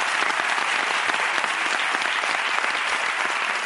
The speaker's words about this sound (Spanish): Vale, un aplauso para esta muchacha, joder, que está lesionada. Y para este chico, gracias, ¿eh?